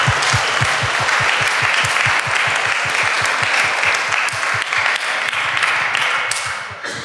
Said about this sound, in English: So if everyone could just, you know, give a round of applause to all the volunteers and everybody who made this happen.